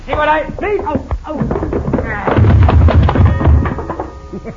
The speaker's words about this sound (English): Madre mia, Cisco, you hit that coyote so hard, he bang up against the wall and knocked the clock down.